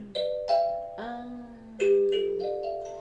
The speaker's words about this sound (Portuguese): Aqui, esse aí é o kalimba, que também é africano. Aquela das sementinhas é africano, o kalimba é também é o instrumento.